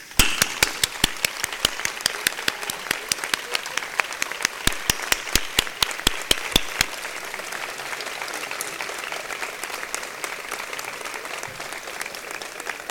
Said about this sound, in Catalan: Un fort aplaudiment per la merescuda Creu de Sant Jordi que us han concedit aquest any.